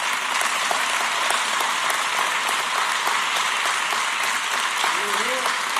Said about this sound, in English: Hear, hear, the crowd claps, the crowd goes wild. Joe Biden apologizes for something that 2 weeks ago he insisted he had no reason to apologize for.